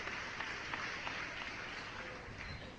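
An audience claps steadily, a dense crackle of many hands that holds at an even level for a few seconds, with no voices over it.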